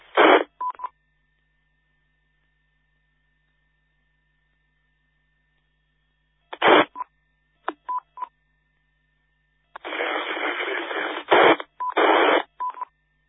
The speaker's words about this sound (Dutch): Dat ging iets niet goed. Ik hoorde een inmelder, maar die zat heel erg in de ruis. Zou je het nog een keertje willen proberen? Heel erg in de ruis.